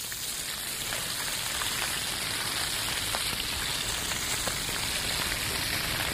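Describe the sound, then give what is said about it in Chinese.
A steady, dense crackling hiss of meat pan-frying in plenty of hot oil in a restaurant kitchen, loud, with tiny pops scattered throughout and no talking; the meat is seared golden, about medium. “我们让它煎熟了后，要上桌前再撒点那个玫瑰盐。”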